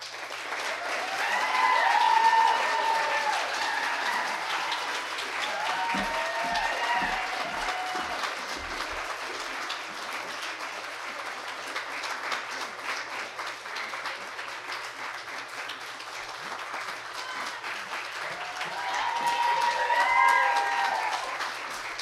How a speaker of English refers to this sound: Yeah, let's have one more round of applause